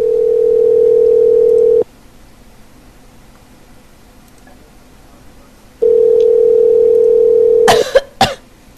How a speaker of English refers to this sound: I'll mute Skype so he can't hear me coughing. The listeners can hear me, though.